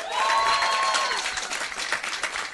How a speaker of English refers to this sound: Give me a round of applause if you've heard the show before.